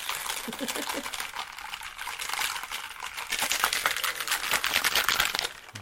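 A cocktail shaker rattles with ice as a vodka martini is shaken, not stirred, at the bar of a James Bond museum. It keeps a fast, steady rhythm for several seconds, a dense clattering that grows slightly louder toward the end, with faint voices in the background.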